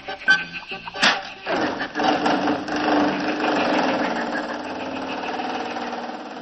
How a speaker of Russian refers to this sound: А наши друзья тем временем уселись в автомобиль вместе с бегемотом. Поехали!